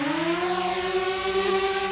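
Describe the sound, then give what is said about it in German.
A drone's continuous buzzing whine, steady and fairly loud, its pitch rising slightly before holding level, with a layered, harmonic-rich motor tone and no voices. “Ah, Drohne!”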